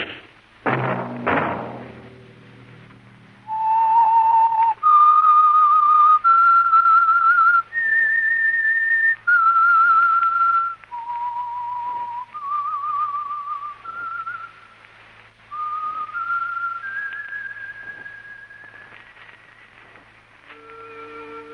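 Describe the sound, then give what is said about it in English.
A person whistles the signature theme of a weekly Wednesday-night program sponsored by the Signal Oil Company, a slow, eerie melody of long held notes that dip and climb, loud, after a couple of heavy thuds at the start. No one speaks. “Let that whistle be your signal for the Signal Oil program, The Whistler, each Wednesday night at this same time.”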